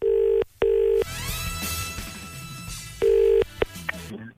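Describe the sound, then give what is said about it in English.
A telephone ringback tone sounds in steady bursts, two long rings at the start and another later, with a busy, music-like bed and brief clicks in between. “Aha! It's ringing.”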